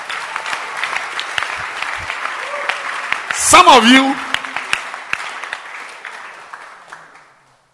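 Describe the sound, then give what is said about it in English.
An audience claps steadily for several seconds, a dense patter of many hands that swells briefly in the middle, then fades out. A voice speaks over the applause. “Clap for wisdom.”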